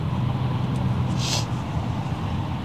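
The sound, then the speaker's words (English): A USF Holland Inc. truck rumbles steadily along the road, its deep engine drone continuous, with a short airy hiss partway through that could be an air brake. “Get the hell out of my way, USF truck.”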